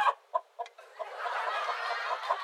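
A chicken clucks in a few short, choppy bursts, then breaks into a steadier, busier stretch of clucking and squawking, with no voices.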